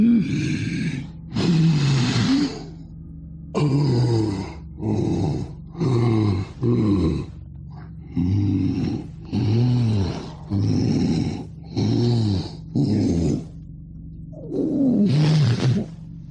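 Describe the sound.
A voice imitates the rattling, snoring breath of a dying person taking their last breaths, repeated about ten times in a steady rhythm of harsh, gurgling rasps with short pauses between, loud.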